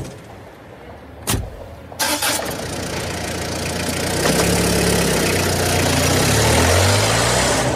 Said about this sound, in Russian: Подскакивая на ухабах и отчаянно дребезжа металлическими внутренностями, Рафик поехал вперед.